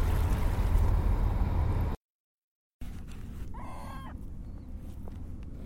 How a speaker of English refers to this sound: Now actually watching as some seagulls nibble at what I threw up.